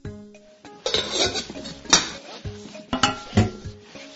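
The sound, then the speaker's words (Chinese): Metal pots and pans clank and bang together in a busy, irregular jumble, with several sharp ringing hits standing out over a steady clatter. “锅子这么多种，到底要用哪种锅子好呢？”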